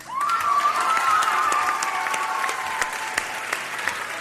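An audience at a cooking competition bursts into sustained applause for a contestant, with a few cheers and whistles rising over the clapping, loud, holding steady for several seconds.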